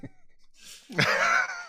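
A person sniffs with a quick, airy inhale through the nose, immediately followed by a louder, breathy voiced exhale or groan, fairly loud.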